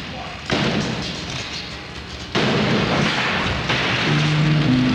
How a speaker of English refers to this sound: Hit it a little bit like I have for you. Go ahead, pound on it. Go ahead. Let it have it. Now, once more.